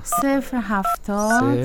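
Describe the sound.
A few short phone keypad beeps, spaced apart as the number of the speaker's father is dialed, sounding clear while a voice talks loudly over them.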